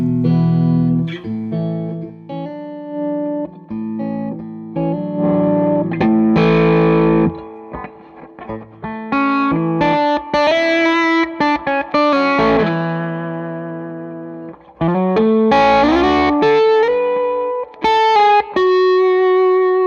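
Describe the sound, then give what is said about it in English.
An electric guitar on its front pickup plays ringing chords and melodic runs with a distorted, effects-laden tone, loud and continuous with brief pauses, no voices. “Now we're on the front or the middle. Now the front pickup.”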